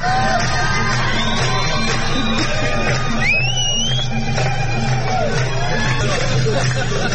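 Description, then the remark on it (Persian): A dense crowd in the city of Rasht, Iran, roars continuously on a Thursday evening, with overlapping shouts, whoops and high rising cries breaking through the loud, steady babble of many people celebrating. “شامگاه پنجشنبه نیز ویدیویی از شهر رشت انتشار یافت که شادی کردن گروهی از مردم را نشان می‌داد که در آن بسیاری از زنان روسری بر سر نداشتند.”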